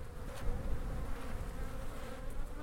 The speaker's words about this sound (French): Tiens, ça c'est très beau ça. Alors là, le cadre est presque couvert d'abeilles.